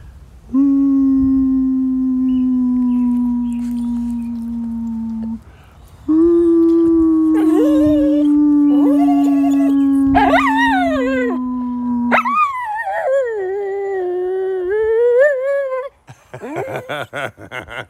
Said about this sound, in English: I could get her to howl for you if you want to hear it.